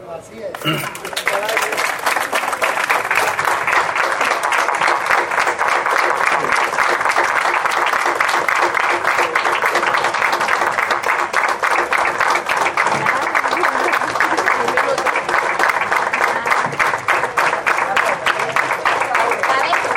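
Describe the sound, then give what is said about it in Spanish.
Sustained applause from a large crowd, dense and steady clapping that swells in quickly and holds at full strength for the whole stretch, with no one speaking over it; a minute of applause for Hugo Chávez, 2 years and 4 months after his death. “La segunda es que hoy se cumplen 2 años y 4 meses de la muerte del compadre y del camarada Hugo Chávez Frías, para la cual yo voy a pedir un minuto de aplauso.”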